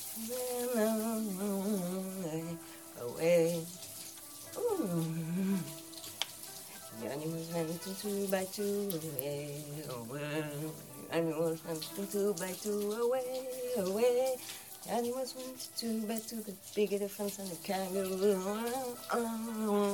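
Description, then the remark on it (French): Shower water runs in a steady hiss the whole time while one person showers and another shaves, with voices talking over it almost continuously. “Je peux continuer à me raser pendant que tu te douches.”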